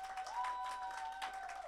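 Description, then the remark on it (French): An audience breaks into dense, steady applause for a group of children called to the front, many hands clapping together at an even level for the whole stretch, with a thin sustained tone running underneath. No one speaks. “Applaudissez.”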